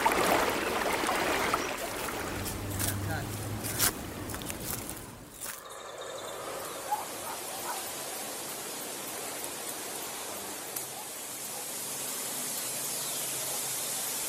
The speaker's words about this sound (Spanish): Sin embargo, mientras el agua fluye, se torna cada vez más parda, despojándose de su pureza inicial.